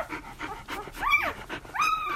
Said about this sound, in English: This is the sound of 11 puppies. They're just 6 days old, and they're rushing, as much as puppies of that age can rush, to feed from their mum, Lola, a tired but proud golden retriever.